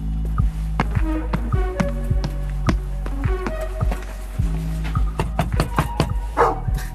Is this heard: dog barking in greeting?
yes